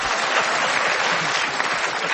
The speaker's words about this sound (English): And this audience applauds.